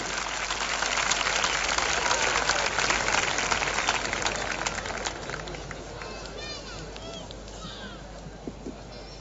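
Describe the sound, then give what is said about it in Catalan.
Loud, dense applause from a crowd for a group from the Maresme, steady for about five seconds before thinning and fading, with scattered voices and cheers audible as it dies down. “Aplaudiment fort per ….”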